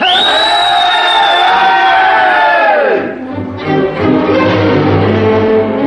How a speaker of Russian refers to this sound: Казаки с гиком выскочили с обеих сторон воза.